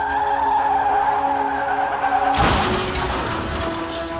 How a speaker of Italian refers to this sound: Più tardi, quella stessa notte, lo schianto fatale.